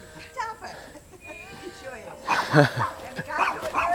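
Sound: small dog barking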